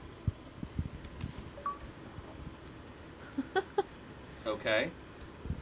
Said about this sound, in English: it's actually an old school ringtone from an old phone system called the Merlin phone